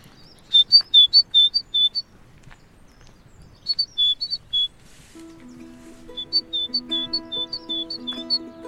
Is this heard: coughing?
no